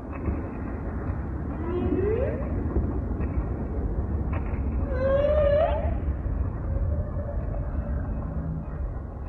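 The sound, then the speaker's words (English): Whale song: a few rising, moaning tonal calls with harmonic overtones, the loudest one swooping upward midway, carried over a steady low rumbling underwater hiss. “I listen to these whales singing, and they're just beautiful.”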